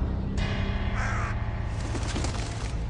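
A crow caws in a few harsh, raspy bursts, fairly loud, over a steady low droning rumble in the background.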